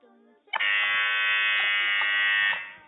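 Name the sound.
quiz show contestant buzzer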